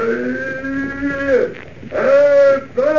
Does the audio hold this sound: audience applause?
no